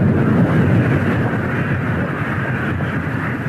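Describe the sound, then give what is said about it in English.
A loud, sustained roar of missile strikes and explosions hitting Kyiv, Ukraine: a dense, continuous low rumble with no clear separate blasts, heard alone without any voices. “Explosions and missile attacks that have hit Kyiv and large portions of the northeastern and the central part of the country.”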